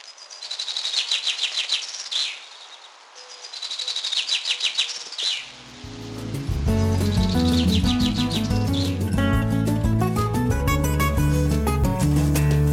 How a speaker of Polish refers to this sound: Są wśród ptaków dialekty i rzeczywiście nasze zięby śpiewają trochę inaczej niż te francuskie. Przykład wyciągnięty z mojego archiwum. Nasza zięba mniej więcej śpiewa tak. A zięba zarejestrowana pod Grenoble.